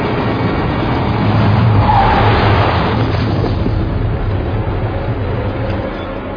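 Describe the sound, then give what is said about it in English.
A car roars along at speed with a loud, continuous engine and road rush, tyres skidding and scraping partway through; no voices, just the steady vehicle noise. “Stop what you're doing and stop this fucking car!”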